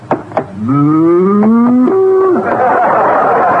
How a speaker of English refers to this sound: No. Wait a minute, mister. This is a cow. You got good eyes, lady. We give you the bucket free. Gosh, a real cow.